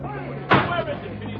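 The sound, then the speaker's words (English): A single sudden crash on a highway about a quarter of a mile away, a brand new sedan jammed into the rear of a big semi-trailer truck: one sharp loud impact that quickly dies away, over a steady low background murmur. No long screech of brakes comes through before it. “It was a desperate shriek of brakes and a terrific crash out on the highway.”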